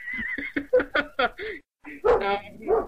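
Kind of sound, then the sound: animal, dogs barking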